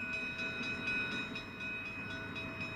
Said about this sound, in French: où ils font circuler leurs trains sur la ligne la plus importante du pays, le long du canal qu'ils administrent de façon discrétionnaire.